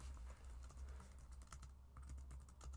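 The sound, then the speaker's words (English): Rapid clicking of keys on a computer keyboard, an irregular stream of crisp taps over a low steady hum, with no one speaking. “Okay, I'm just gonna type it, because this is...”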